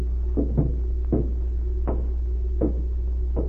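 front door opening

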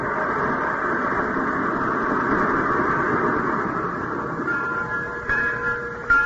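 train running on rails

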